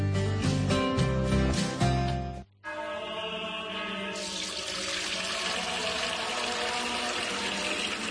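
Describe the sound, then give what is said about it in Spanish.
Fuente Umbría spring water pours steadily into a container, a continuous splashing and gurgling that runs for several seconds after a brief pause, with no one speaking. “Hermano Pedro, es que no nos quedaba agua bendita. Agua pura de manantial Fuente Umbría.”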